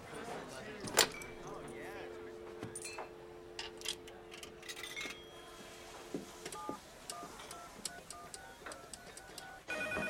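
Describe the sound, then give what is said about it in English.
A telephone rings on an outgoing call, a steady electronic tone droning for several seconds, mixed with small clicks and ticks and a faint background murmur. “Well, listen, I gotta make a phone call.”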